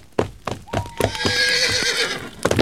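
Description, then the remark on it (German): A horse named Maharaja lets out a long, wavering whinny that trembles and fades, framed by a few sharp hoof clops at the start and end, at a campsite where its rider is about to jump it over the campfire. No one speaks. “Spitze, wer bist du, schwarzer Reiter?”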